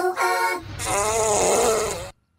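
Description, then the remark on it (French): A loud fart from an animal: a short tonal blast, then a longer buzzing, sputtering stretch of about two seconds that cuts off abruptly. No one speaks. “Décompte pet.”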